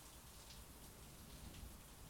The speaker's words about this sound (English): I think the rain created white noise that just put me out. It's still going hard out there. It must have rained all night.